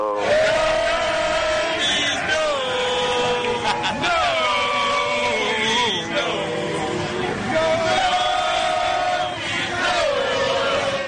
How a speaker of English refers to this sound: You know, the FSU chant is like a war chant. It's like an Indian thing, like, oh, like that.